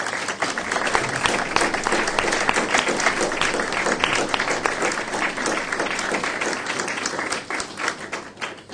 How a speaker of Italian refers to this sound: Primo, perché quel partigiano oggi è qua, facciamo un bel applauso.